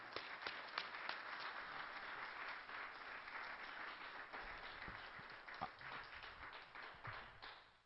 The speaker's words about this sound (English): So without any further ado, let's give Dr. William Deagle a warm round of applause at the Granada Forum.